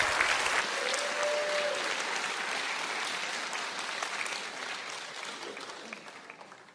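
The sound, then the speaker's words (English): A church crowd breaks into steady, dense applause one morning, welcoming children coming out to be baptized; it holds strong for several seconds, then gradually thins and fades. A brief whistle-like tone cuts through early on. “Would you welcome them with a huge round of applause as they come out this morning?”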